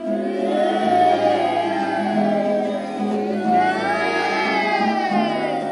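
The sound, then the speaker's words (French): A group of voices imitates a cow, holding a long, loud, droning moo together that swells and dips slightly for several seconds, with no other talking. “Faites-moi la vache.”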